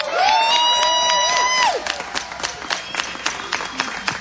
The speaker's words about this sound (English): Ladies and gentlemen, put your hands together